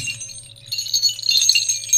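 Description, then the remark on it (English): A string of three small bells jingles and rings with bright, high, shimmering tones that grow busier and louder after a soft start, over a low steady hum. Nobody speaks. “There's three different bell sounds, because there's three different bells in this string.”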